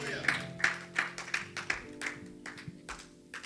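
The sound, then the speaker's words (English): A church audience claps for the Lord Jesus during a sermon in a steady rhythm, about ten sharp, even claps over a low sustained hum, with faint voices mixed underneath. “Clap for the Lord Jesus.”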